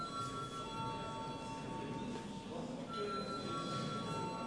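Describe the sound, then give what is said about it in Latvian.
A parliament chamber bell, called for before a re-vote, rings continuously, a steady, buzzing metallic tone with bright overtones that holds for several seconds with only a brief wavering midway. No one speaks over it. “Lūdzu zvanu.”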